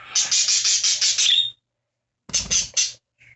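A pet parakeet (budgie) named Coco screeches in a rapid run of harsh, rasping calls, stops for about a second, then lets out a couple more bursts and a short squeak, loud.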